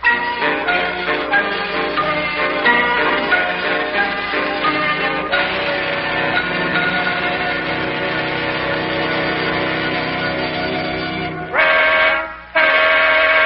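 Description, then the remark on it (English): A wedding car's horn honks outside in long, sustained blasts that blare almost continuously, cut off briefly near the end, then sound again. No one speaks. “in the wedding car honking the horn outside.”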